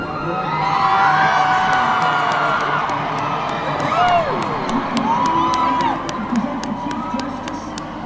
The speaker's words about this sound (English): This is a crowd of people standing on Pennsylvania Avenue reacting to what they're hearing over the loudspeakers.